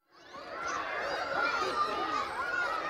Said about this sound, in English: Wait, what's that? I hear children. They're screaming.